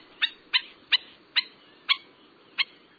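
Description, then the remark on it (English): A series of six sharp, yapping black-necked stilt calls, loud, repeated at a fairly even, insistent rhythm with no one talking. “They leap into the air and call with an intensity and volume all out of proportion to their delicate appearance.”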